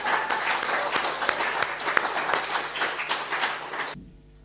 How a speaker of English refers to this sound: But we want to say a big thank you, because it's not done easily. It's done with a lot of hard work. So if we can give them a clap.